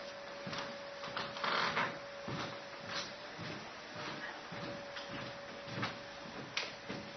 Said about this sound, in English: could you just close the door for me, please? Thank you.